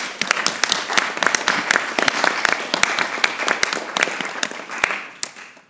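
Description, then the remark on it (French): Applause from a meeting approving by acclamation the adoption of a master plan on promoting walking: a steady, dense patter of many hands clapping, loud and sustained for several seconds before tapering off at the end. “Par acclamation.”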